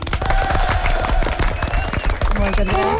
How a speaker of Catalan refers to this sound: Anem a fer-los un aplaudiment.